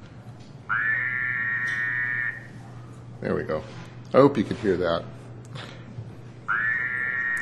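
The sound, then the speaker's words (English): Toads singing in spring: a long, steady, high-pitched trill, then a short stretch of spoken words, then the same buzzing trill starts up again and carries on to the end. “And in the spring, in approximately 1 month from now, the toads will come out and they'll begin to sing. Here's what they sound like.”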